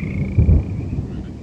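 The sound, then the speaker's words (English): A low, rumbling swell of thunder from an album rolls through briefly over a steady background hiss of stormy weather, with no voices present. “This is from the ZBS CD, ….”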